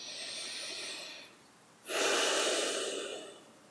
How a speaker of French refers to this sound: Respirez un peu, prenez quelques grandes respirations profondes.